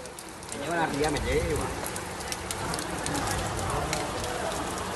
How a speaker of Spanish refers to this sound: Vamos a escuchar, si os parece, cómo la fuerza del agua ha arrasado con todo en Lepe, en la localidad onubense de Lepe. Escuchen.